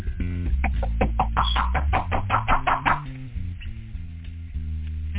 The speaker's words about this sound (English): Fiddlers right there at the door. They're knocking at this time right now.